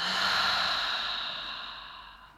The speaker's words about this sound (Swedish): Så släpp ner axlarna, slappna av i ansiktet och ta ett djupt andetag in genom näsan. Fyll upp både bröstkorgen och magen med luft. Och andas ut långsamt genom munnen.